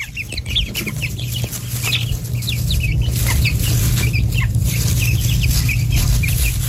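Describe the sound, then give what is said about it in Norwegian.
Many small, contented chicks peep softly and continuously in a hen yard as they walk around keeping contact with each other and their mother hen, overlapping chirps scattered throughout, with a steady low hum underneath; no one speaks. “Her hører vi kyllinger, og dette er jo fornøyde kyllinger som går rundt og bare holder kontakten med hverandre og moren”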